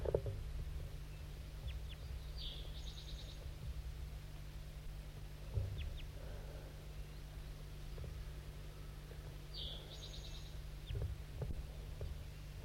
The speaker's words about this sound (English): There's another crossbill here, I didn't even know it. That's it.